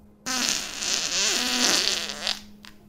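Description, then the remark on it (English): A single long, loud fart, after eating bean and cheese burritos and soft tacos, rasps for about two seconds, with a buzzing, wavering pitch that flutters near the end before cutting off. “I got lucky, as there was a Taco Bell baggie with 3 bean and cheese burritos and 4 soft tacos, and I ate the living shit out of it and farted the rest of the evening.”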